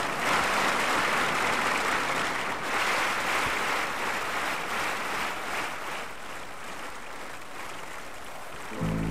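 Sustained audience applause as a singer is invited onto the stage, a dense steady wash of many hands clapping at once, loud and continuous with no voices standing out, easing slightly toward the end.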